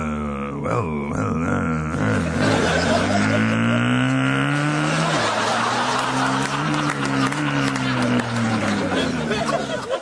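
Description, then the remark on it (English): A motorbike engine revs loudly, its pitch climbing and sliding in long sweeps for about ten seconds, with a busy, noisy background underneath. “Sorry, I think I just turned into a motorbike then.”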